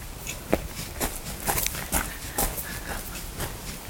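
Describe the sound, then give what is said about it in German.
Steady footsteps walk at an even pace outdoors on castle grounds, leaving the gatehouse and castle pond behind and heading toward the horse stable, each step a crisp crunch against a low background hiss, with no talking. “dann machen wir uns mal auf den Weg und lassen das Torhaus und ja auch den Schlossteich, der sich dahinter befindet, erstmal hinter uns und gehen weiter in Richtung Pferdestall.”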